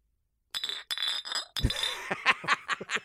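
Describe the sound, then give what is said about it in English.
Glasses clink together in a toast to sturgeon, a bright ringing chime followed by a few more quick taps and clatter, with some faint background murmur. “I am giving cheers to sturgeon.”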